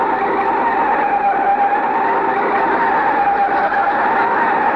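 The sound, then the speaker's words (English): A car's tires screech in a long, loud, continuous skid as the car, its brake recently fixed, brakes hard to stop at a doctor's office building, the harsh squeal holding steady for several seconds with no voices over it. “See how nice it stopped since we had the brake fixed?”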